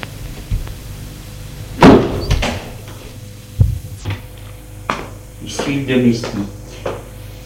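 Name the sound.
door opening and closing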